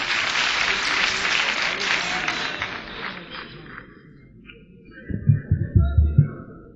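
An audience applauds with a dense wash of clapping that fades after a few seconds. Low thumping bursts follow, with a faint tone drifting over them.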